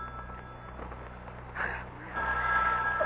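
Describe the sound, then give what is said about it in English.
A telephone bell rings in two bursts, a brief ring followed by a longer, sustained one, fairly loud against a low background hum. “aren't you going to answer it? Answer? The phone.”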